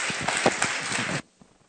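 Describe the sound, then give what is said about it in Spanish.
An audience claps together in a loud, dense burst of applause to welcome an instructor, steady for about a second before cutting off abruptly, leaving near silence. No one speaks. “Recibámoslas con un fuerte aplauso.”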